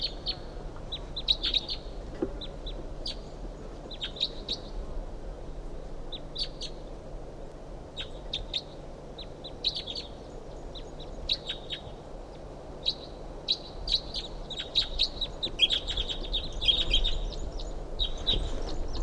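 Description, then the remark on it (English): A wild bird calls from the top of a medium-sized ponderosa pine about 50 yards off, repeating short, high chirps and tweets in irregular bursts across the whole stretch over a steady low background hum, with no one speaking. “That bird's about 50 yards off in the top of us, medium-sized ponderosa pine.”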